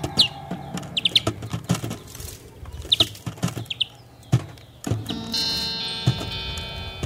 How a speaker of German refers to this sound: Dieser Elterngrünling schnäbelt das Kind und sitzt dabei auf den Gitarrensaiten. Vielleicht halten die sich da sogar gerne dran fest. Und der Kleine ist hier ja auch mit seiner Pfote an der kleinen E-Seite dran.